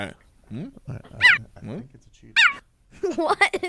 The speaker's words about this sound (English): Cheetahs don't roar. Wait. Cheetahs don't roar. Cheetahs don't roar. Wait. Can we pause for a second? It's a cheetah.